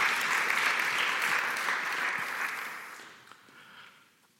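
An audience claps steadily for a presenter at the end of her talk on powers of attorney and wills, a dense wash of applause that holds strong for a few seconds, then thins and fades away toward the end. No one speaks over it.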